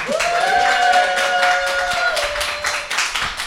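Steady applause, dense and fairly loud, with many hands clapping for about three seconds before thinning out; a long held whistle-like tone rides over the clapping.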